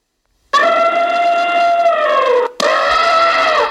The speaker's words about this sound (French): L'éléphant.